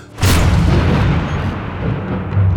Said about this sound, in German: Ich muss gestehen, ich glaubte gar nicht recht an diesen Spruch, aber mir stieg das Haar zu Berg, als die Tür aufflog.